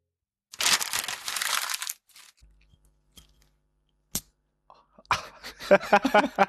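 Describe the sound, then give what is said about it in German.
A cheap small glass being handled: a burst of rough scraping and rustling, a lone sharp click, then a busy run of light clinks and knocks. “Man hört, dass das billige kleine Glas ist.”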